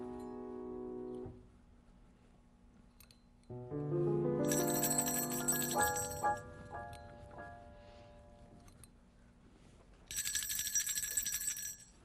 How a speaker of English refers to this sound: Your little bell is very quiet.